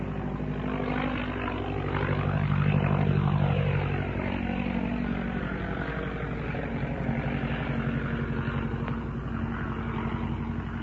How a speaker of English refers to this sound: That's the sound of an OX-5 engine.